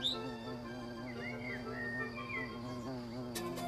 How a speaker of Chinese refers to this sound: 一只蜜蜂飞过来，把马尔东的嘴角当成了一朵花儿，采起蜜来。